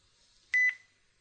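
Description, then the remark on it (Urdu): A short electronic tone sounds twice in quick succession, clear and fairly loud against a quiet background: the beep of a phone call being cut off. No one speaks. “کال کٹ گئی، plus one کی کال آئی ہے،”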